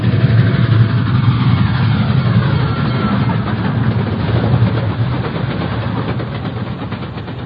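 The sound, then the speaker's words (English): A loud, steady roar of an approaching train on the tracks rumbles continuously with heavy low-end noise and a dense rushing sound, easing off only slightly toward the end. No voices are heard. “Then, dimly, I can make out an approaching roar. Another train heading right for me.”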